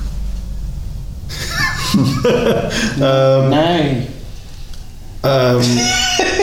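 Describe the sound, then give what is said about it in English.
A person does a loud vocal imitation of a horse's whinny as an answer in a word game naming animals that begin with the letter H: a wavering, pitch-sliding neigh repeated in a few bursts, with background noise and other voices around it. “A horse.”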